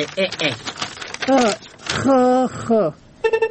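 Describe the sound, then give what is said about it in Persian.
Voices talk, then a telephone rings near the end with a quick burst of bright, rapidly repeating electronic pulses, fairly loud. “یک دقیقه صبر که تو کمی زنگ تلفنم جواب بتون.”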